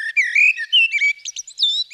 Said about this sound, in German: Die Amsel haben alle schon mal gehört.